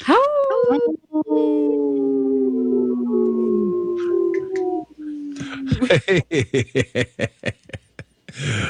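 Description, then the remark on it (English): Several people howl together in long, wavering wolf-like cries, imitating a wolf pack during a promotion for a wolf-protection group, then break into a rapid run of laughter as the howls fade. “Oh, thanks for joining in on that howl,”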